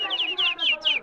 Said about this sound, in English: Birds.